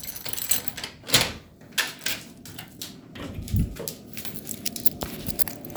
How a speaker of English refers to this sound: So excuse the keys, I'm making.